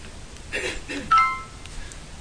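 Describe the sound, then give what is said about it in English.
A mobile phone rings briefly, a short bright electronic tone cutting in after some muffled background activity, moderately loud. “I always tell him to turn off my phone. Okay, I'll call him back later.”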